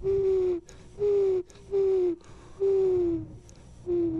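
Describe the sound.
A person imitates a dove's coo with five low, hollow hooting notes, each sliding slightly downward, repeated at a steady, unhurried pace with short pauses between them. No one talks.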